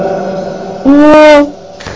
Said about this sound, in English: Yes, quite. And there's a reverb.